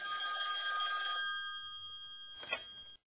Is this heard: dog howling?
no